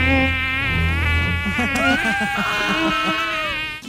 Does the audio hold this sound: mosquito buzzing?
yes